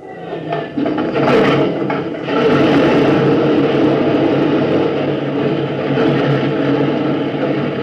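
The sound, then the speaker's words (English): An airplane engine coughs and sputters through a few uneven bursts, then catches and settles into a loud, steady, rumbling roar that holds to the end. No one speaks. “Turn him over, Captain.”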